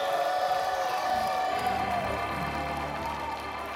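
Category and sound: crowd, crowd shouting and cheering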